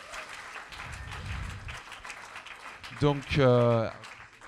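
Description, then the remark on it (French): A crowd claps steadily in a dense, crackling wash of applause for a guest being called up, and a loud voice calls out over it toward the end. “On peut l'applaudir.”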